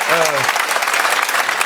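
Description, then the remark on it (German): A studio audience claps in a dense, steady burst of applause that fills the whole moment, with a brief voice heard at the very start. The audience claps to vote that a free kick should have been given. “Jetzt Beifall klatschen, wenn es Freistoß hätte geben sollen.”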